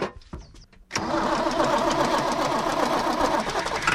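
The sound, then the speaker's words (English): A big green tractor's engine cranks briefly, then catches and settles into a loud, steady diesel idle with a rapid, even chugging pulse, heard alone, on a 500-acre farm just outside Chatteris, Britain. “climbs on board his big green tractor on the 500 acres he farms just outside Chatteris.”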